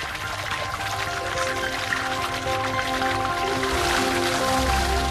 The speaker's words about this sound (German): Da sind die Sojabohnen schon richtig schön weich geworden, haben sich mit Wasser vollgesogen. Das überschüssige Wasser wird wieder abgelassen.